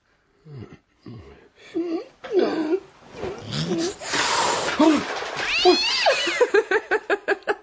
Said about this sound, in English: Oh, don't be fierce, sir. It's only Wellington. Wellington? The cat. He catches the rats.